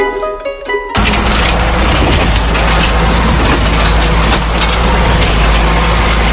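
A farm tractor engine runs loud and steady, a dense low rumble with a constant droning hum, preceded by about a second of tonal music at the start.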